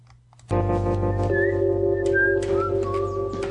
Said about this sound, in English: House is sitting in his room on his bed, whistling.